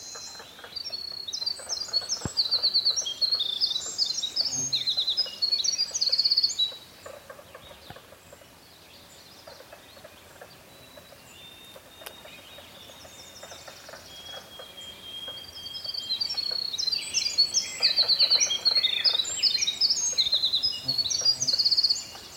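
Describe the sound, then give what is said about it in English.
A winter wren, a very small woodland bird about 4 inches long, sings a long, tumbling cascade of rapid high-pitched trills and warbles, pauses with a few thin faint notes, then launches into another extended bubbling song phrase. “The very long, long song is a winter wren.”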